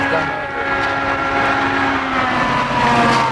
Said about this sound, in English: The cars are coming on the road, we should go on the walk.